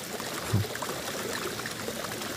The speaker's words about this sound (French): L'eau, évidemment, vu qu'on en parlait.